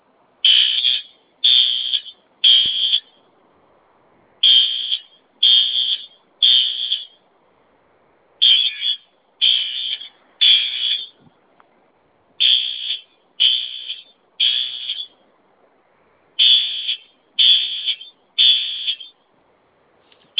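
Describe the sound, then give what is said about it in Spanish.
An alarm siren at the entrance of a plaza blares loudly in repeated groups of three shrill, high-pitched beeps, each group followed by a brief pause, continuing steadily throughout with no voices. “O sea, pues nos está todo el ruido, y ya se abrieron los de la plaza a ver qué onda, que por qué no apagamos la sirena, porque sí se oye muy fuerte.”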